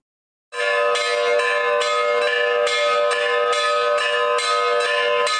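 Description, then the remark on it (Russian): Church bells peal in a steady, rapid ringing pattern, loud, with overlapping metallic strikes repeating every fraction of a second and a sustained ringing tone beneath, at the church of Hieromartyr Veniamin, Metropolitan of Petrograd, in correctional colony No. 5 in Metallostroy, during a patronal feast. “Перезвон колоколов возвещает о радостном событии.”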